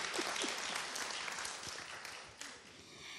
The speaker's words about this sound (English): Let's clap hands for my grandchild. Ja, und lass uns mal für meinen Enkel klatschen.